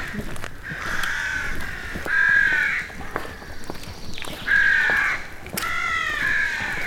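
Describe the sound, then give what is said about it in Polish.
Several crows caw repeatedly in a park, their harsh calls overlapping in uneven bursts, loud against a steady outdoor background with no talking. “Taki trochę nastrój grozy robią tym krakaniem swoim.”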